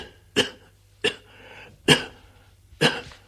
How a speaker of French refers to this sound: Ça le fait tousser un peu.